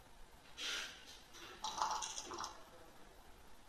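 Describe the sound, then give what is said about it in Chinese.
Dice being shaken and rolled in a big-or-small guessing game rattle and clatter in a few quick bursts of sharp little clicks, fairly faint and brief, with no one speaking. “开始摇骰子。”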